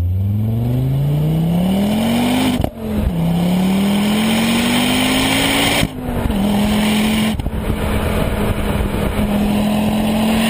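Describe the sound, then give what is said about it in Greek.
An RS 500 rally car engine roars loudly, its pitch climbing steadily as it accelerates, with three quick gear changes briefly dropping the revs before it pulls again. No one speaks. “Αλλά και το απόλυτο αυτοκίνητο το RS 500.”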